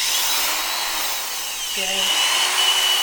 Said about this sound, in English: And after that, he adds water until it's a thick, muddy substance using a drill attached to an old paint stirrer.